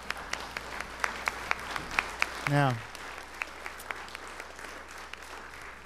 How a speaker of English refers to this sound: Let's welcome these folks with a hand clap.